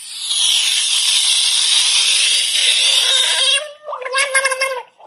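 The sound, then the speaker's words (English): A buggy-eyed frog, angry at being picked up and put in a tub of water, gives a long, steady, airy hiss for several seconds as it sinks below the water, then breaks into a short run of squeaky, warbling, gurgling tones before stopping. “So, guys, this is a buggy-eyed frog that was picked up, got angry at being picked up, was put in a tub of water, and that's the sound it made as it was dropping below the water level.”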